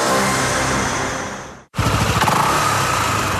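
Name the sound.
motorcycle engine revving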